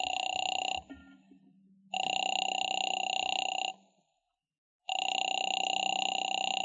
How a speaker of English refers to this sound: Phone seemed to ring forever, and just when I was about to hang up...